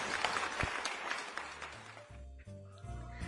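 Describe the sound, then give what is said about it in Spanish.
An audience applauds after a song performance in a dense, steady wash of clapping that gradually thins, while soft sustained musical tones rise underneath in the second half. “Gracias, gracias, gracias, público conocedor, gracias por esos aplausos, gracias.”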